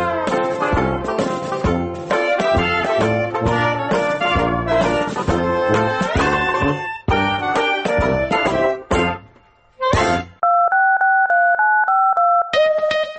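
telephone number being dialed

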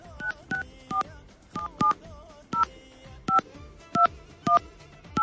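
telephone number being dialed

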